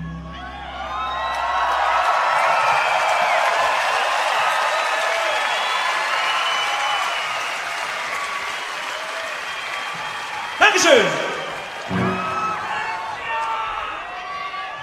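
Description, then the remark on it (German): A concert audience screams, whistles and cheers in a loud, sustained roar with shrill high voices rising above it. It dies down as a man briefly speaks, then a few scattered shouts follow. “Ein Lied, kreischt doch nicht so rum hier, man versteht das eigene Wort nicht mehr.”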